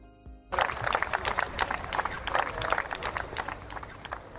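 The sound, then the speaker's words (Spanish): Sustained applause from a crowd in San Sebastián, including members of Sortu and EH Bildu, welcoming former ETA leader Mikel Albizu (Mikel Ancha). It starts abruptly and continues steadily, a dense wash of many hands clapping at once with no voices standing out. “Así, con aplausos, ha sido recibido nada menos que el que fuera jefe de ETA durante 12 años, Mikel Ancha.”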